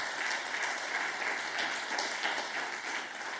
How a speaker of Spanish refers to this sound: Dele una ofrenda de palmas.